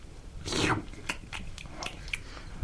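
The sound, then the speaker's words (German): Crunching: one loud, grinding bite followed by a series of sharp, irregular crunchy chews as a person chews and swallows thumbtacks. No one speaks. “Ich kann Reißnägel schlucken.”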